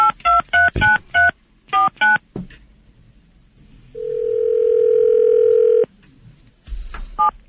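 Touch-tone telephone dialing as the Drew and Mike radio show on WRIF redials a call: a rapid run of about eight short two-pitch beeps, then a quiet pause and a single steady tone held for roughly two seconds, ending with a brief burst of noise.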